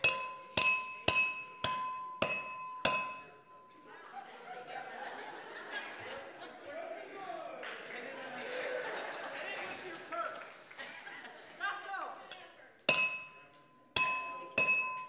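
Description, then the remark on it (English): A glass object strikes a nail in a quick run of about six sharp, ringing taps, driving it in without breaking, then people laugh and murmur, before a few more bright glassy hammer blows. “Those of you who said the purpose, it could drive a nail in, you were right. It can do it.”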